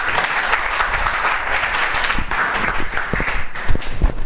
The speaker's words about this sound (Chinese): 以下的时间交给张牧师来替我们做今天的讲述，我们掌声欢迎。